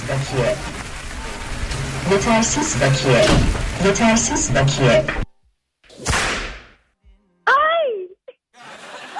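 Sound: whip lashing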